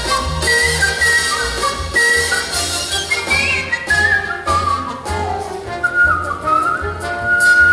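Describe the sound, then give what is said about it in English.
A man, an international grand champion whistler, whistles a flowing melody with bright, sliding notes, carried along over loud, full instrumental accompaniment that plays continuously beneath him. “But he loves to whistle.”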